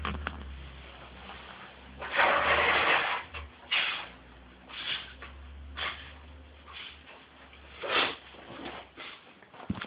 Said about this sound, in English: I'm just gonna blow. Guess what? Just gonna blow my nose.